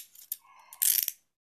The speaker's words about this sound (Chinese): 等着我去把你锁好。嗯，反手给你把手铐锁好